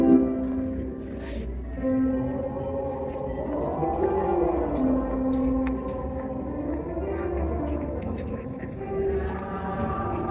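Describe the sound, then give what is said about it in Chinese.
A choir running vocal warm-up exercises in a music classroom of a former military building now used as a cultural facility, many voices holding sustained 'o' and 'miao' vowels and sliding up and down in unison pitch glides, steady and moderately loud throughout. “哎，我们能听到刚才那个音乐教室里头，他们正在进行声乐练习。”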